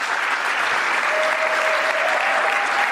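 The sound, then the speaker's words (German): Steady, dense audience applause for Pater Karl Wallner ahead of his talk fills all three seconds at an even, fairly loud level, a continuous wash of many hands clapping, with a faint thin tone sustained through the second half. “Nochmal eine große Runde Applaus für Pater Karl Wallner.”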